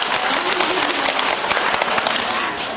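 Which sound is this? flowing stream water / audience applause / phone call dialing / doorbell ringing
audience applause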